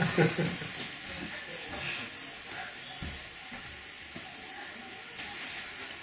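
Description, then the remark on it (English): Steady rush of running water with the occasional soft clink of dishes as people wash the dishes, with faint indistinct voices in the background. “They're washing the dishes.”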